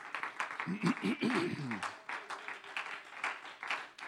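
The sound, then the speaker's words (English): A church audience claps hands together as praise and thanks to the Lord, a steady, dense burst of applause lasting several seconds, with a voice calling out over the clapping near the start. “Why don't we give the Lord a hand clap of praise and thanks together.”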